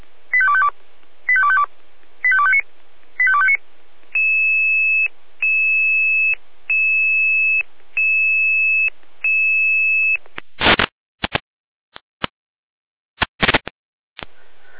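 Electronic fire dispatch alarm call tones from the Jena dispatch center: four short harmonic beeps, then a series of steady high-pitched tone pulses. Bursts of radio static and crackle follow. Loud and clear, with no voices.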